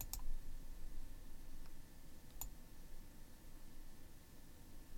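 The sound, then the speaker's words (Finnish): A very low test tone comes through only as a few sharp, faint clicks, like light taps spaced out over a few seconds, against a steady low rumbling hiss with no talking. “Lähdetäänpä liikkeelle taajuudesta 1 hertsi, ja se on tällainen.”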